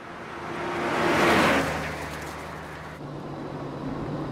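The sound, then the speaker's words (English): Mort's car drives along a tree-lined road, its steady low engine hum and tire noise swelling to a peak midway, then easing into a continuous rumble. No one speaks. “As Mort drives along a tree-lined road, he spots a man putting petrol into a black car at a roadside petrol station.”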